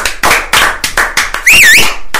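Rattling of falling confetti: a string of loud, crackly tapping bursts in an uneven rhythm, with a bright wavering whistle sweeping up and down midway through. No one speaks.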